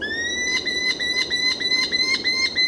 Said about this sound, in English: Want to see one of the blazing thunderbolts of the bird world? Smaller than a pigeon, but fierce enough to knock one from the air, are the powerful compact falcons known as merlins.